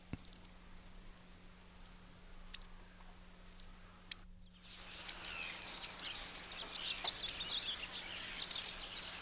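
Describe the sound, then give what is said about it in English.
Bushtit calls: thin, high-pitched notes come in short spaced bursts, then swell into a dense, continuous twittering chatter from several birds. The sound is clear, with no voices. “Next up, we have some of the smallest birds around, bush tits, tiny little fluff balls. Let's give a listen to their call.”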